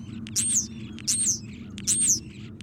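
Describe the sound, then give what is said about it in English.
European starling calls: three bright, squeaky whistled notes repeated at a steady pace, clear above a low murmur of background noise. “European starlings arrived in North America in the 19th century, but they've lived side by side with humans since way before then.”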